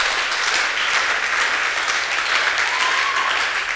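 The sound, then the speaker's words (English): A crowd claps steadily throughout during a sermon, clapping that God is in them, a dense, even wash of many hands with no pauses, loud and unbroken from start to finish. “Oh, continue clapping. Nobody asks you to stop.”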